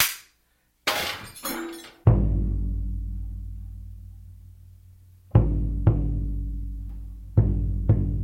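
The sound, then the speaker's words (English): Sharp, noisy crashes of flash percussion instruments: a few dense bursts, then one struck hit that rings and fades for seconds, followed by two quick pairs of crashing strikes. No voices. “These flash percussion instruments. It just comes in an instant and it's gone like that. Dense, sharp, inharmonic sound.”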